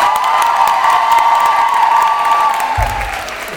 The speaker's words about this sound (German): Ja, wir haben ein Konzert hier und wir haben gerade gespendet zusammen. Wir haben, glaube ich, viel zusammengebracht, okay? Hallo, Applaus mehr bitte, bevor ich...